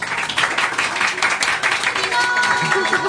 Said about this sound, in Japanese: いきなり声援が。